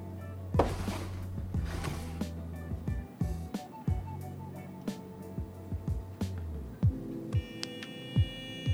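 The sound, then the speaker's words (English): A vibrator buzzes with a steady low electric drone, its pitch shifting slightly partway through, while scattered soft knocks and clicks sound at a modest volume. “froze at the familiar sound of the vibrator she kept in her lower desk drawer.”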